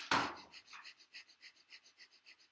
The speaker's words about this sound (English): Now, you're not going to be panting open mouth. You're going to be panting with your closed mouth. So instead of panting with your tongue hanging out, you're going to be panting, you're going to be breathing quickly through your nose.